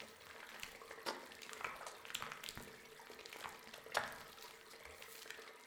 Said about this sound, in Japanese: 指の先までしっかりとぬりぬりしまして、今度は右の肩から肘、手、お指とお指の間まで きめ細やかな泡をすり込んでまいります。